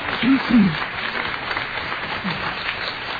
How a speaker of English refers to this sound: So, again, everybody who was at all involved in that effort, a big round of applause. You really did an amazing thing.